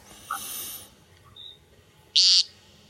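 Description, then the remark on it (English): An American woodcock gives a single loud, buzzy nasal peent at dusk, preceded by a softer raspy note against a quiet evening background with no talking. “The woodcock.”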